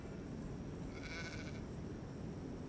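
A single sheep bleats once, a short wavering cry rising out of steady outdoor rumble, with no voices present.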